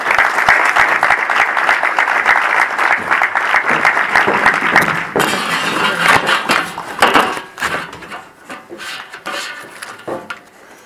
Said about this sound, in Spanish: La recibimos con un aplauso también.